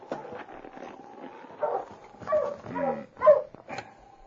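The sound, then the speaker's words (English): A husky sled dog, King, barks and whimpers in a run of short, yelping bursts, some louder and higher-pitched, with a steady whine running between them. “Oh, you husky! Watch him, boy!”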